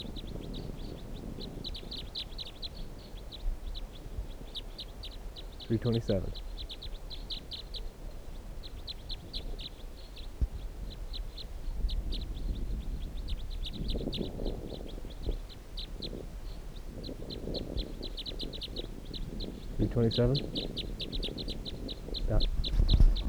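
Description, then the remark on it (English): Bird calls chirp steadily throughout from birds up in the trees, with 15 birds held in a net: rapid, high-pitched twittering repeats in clusters, broken now and then by a few louder, lower, drawn-out calls over a soft background rumble. “So this bird, let's see, stop.”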